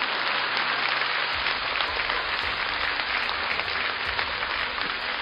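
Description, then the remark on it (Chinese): A crowd claps steadily throughout, a dense, even wash of many hands applauding at moderate loudness with no voices standing out. “而我们现在的人连笑都是这么吝啬，连鼓掌都是这么吝啬。”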